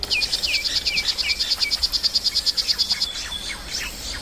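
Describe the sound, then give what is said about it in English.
A rapid, high-pitched buzzing trill of a poison dart frog repeats steadily for about three seconds and then stops. Faint chirps and background ambience follow. “This is a poison dart frog.”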